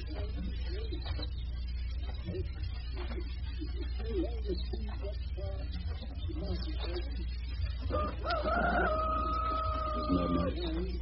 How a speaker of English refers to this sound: I'd like you to listen to a very unusual phenomenon, something you seldom hear these days, the quiet of the countryside.